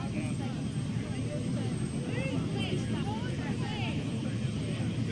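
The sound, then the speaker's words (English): A helicopter that is about to take off rumbles steadily and loudly throughout, its engine and rotor making a dense low drone that never lets up, with faint voices scattered over it. “Okay, if you're walking between the letters, if you could please find a spot, because the chopper's going to take off in a minute, and we really don't want any people walking between the letters.”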